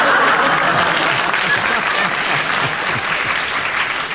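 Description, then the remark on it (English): An audience applauds Clement steadily, a dense, loud wash of clapping that holds at an even level for about four seconds before easing slightly at the end. “You've got the applause now, Clement,”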